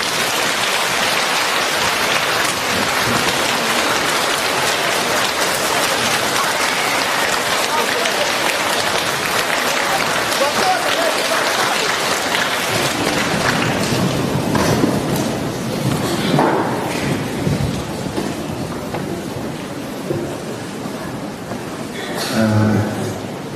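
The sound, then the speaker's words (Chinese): A large audience at a Buddhist New Year gathering breaks into loud, sustained applause to welcome Lu Junhong to give a talk, a dense, steady wash of clapping that carries on for over twenty seconds before easing slightly, with a brief final swell. “现在让我们用最热烈的掌声恭请我们尊敬的卢军宏台长为我们慈悲开示。”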